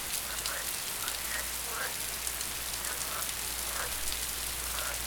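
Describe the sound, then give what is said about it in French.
Steady rain falls in a continuous, even hiss with no one speaking, and faint brief chirps occasionally poke through the wash of water. “Le Lotus et la grenouille, il pleut, il pleut, il mouille.”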